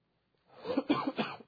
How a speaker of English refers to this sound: I'm going to do my best to not cough too much. I'm trying to hold it back, so pardon me. I know it's aggravating when somebody's coughing while they're trying to teach.